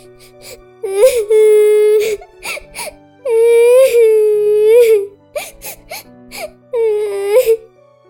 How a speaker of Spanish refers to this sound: Sentía que todo su mundo se estaba desmoronando y empezó a llorar.